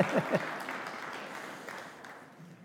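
An audience claps together, a dense, steady patter of many hands that starts strong and gradually thins out over a couple of seconds, with a faint voice or two underneath.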